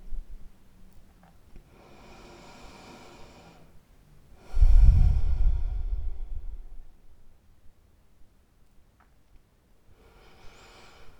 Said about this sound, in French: Prenez maintenant quelques grandes respirations profondes et relaxantes.